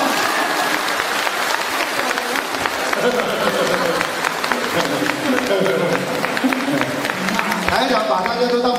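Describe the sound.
An audience applauds steadily for several seconds, a dense, even crackle of many hands clapping at fairly loud volume, with a few murmuring voices mixed in toward the end.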